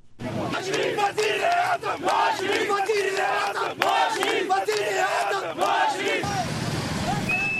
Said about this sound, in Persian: صدها حامی نواز شریف، صدر اعظم مستعفی پاکستان، روز شنبه در اسلام آباد و لاهور به جاده ها برآمده و علیه سلب صلاحیت شدن وی توسط محکمه عالی پاکستان اعتراض کردند.